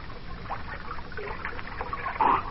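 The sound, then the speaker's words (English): Water sloshes and trickles as someone scoops it up from a stream to drink, ending in a brief louder splash and slurp near the end. “You better not drink out of that water. It's probably poison.”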